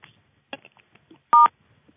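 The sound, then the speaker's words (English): A single short electronic beep as the entry and exit door chimes are turned off, loud and steady in pitch, with two stacked tones, sounding alone after some faint soft clicks and rustles. “You heard that little beep.”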